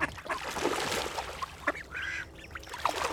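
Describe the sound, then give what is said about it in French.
A flock of round-bellied, web-footed waterbirds lands on water among tall reeds in sunshine, with busy splashing and fluttering mixed with scattered quacks and honking calls, fairly loud throughout. “L'eau, soudain, s'agite autour de nous.”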